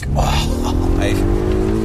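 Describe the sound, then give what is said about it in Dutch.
A Polar One car's engine pulls hard and rises steadily in pitch as it accelerates, loud, with a person talking over the engine noise. “Even weg accelereren hier.”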